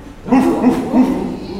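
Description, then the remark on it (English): Children's voices imitate a dog barking, giving about three short, voiced woofs in quick succession, fairly loud. “Okay, so we've got a dog.”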